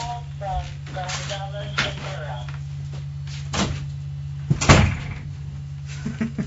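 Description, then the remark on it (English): A door is opened to throw a phone out, with a couple of sharp knocks and a heavier thud near the end, over a steady low hum while a person talks briefly. “Just throw it out the door.”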